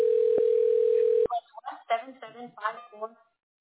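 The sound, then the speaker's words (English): A steady, loud electronic web phone call tone drones for just over a second, then cuts off abruptly as the call is picked up, followed by a couple of seconds of someone talking. “So should I click on web phone? Let me pick up the call.”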